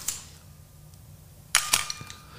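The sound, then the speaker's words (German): A sharp mechanical camera click near the start as the shutter is released at a slow exposure of about a quarter or half second with the camera back open, then a pair of quick metallic snaps about a second and a half later as the lens aperture springs shut, crisp against a quiet background with a faint hum. “Das heißt, ich muss, wenn ich durchgucke, muss ich ein kleines Loch sehen.”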